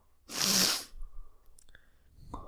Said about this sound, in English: Oh, fuck. The sneezing begins. Okay.